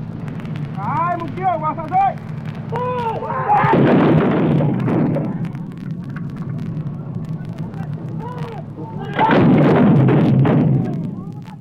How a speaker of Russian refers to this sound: Документальные записи, сделанные в сражающихся джунглях. Батарея патриотов ведет огонь по врагу.